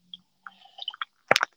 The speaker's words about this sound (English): We need water. This is my throat reminding me to take a sip.